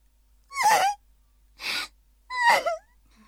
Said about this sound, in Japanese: 困りましたね。私は泣いている女性というものが何よりも苦手だというのに。